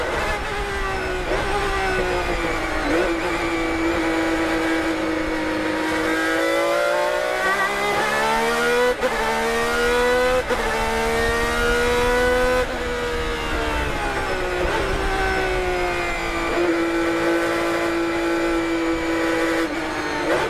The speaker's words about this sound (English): Man, oh man, it brings back big memories. It was everything that anybody who knows anything about cars can imagine about the sound of a Ferrari